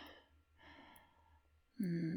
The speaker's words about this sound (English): I heard that gasp.